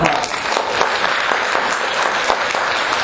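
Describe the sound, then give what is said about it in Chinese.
A crowd of people clapping together for the fathers standing up in the audience on Father's Day, a dense, steady patter of many hands that holds at an even, fairly loud level for about three seconds with no voices on top. “我们替他们鼓掌一下。”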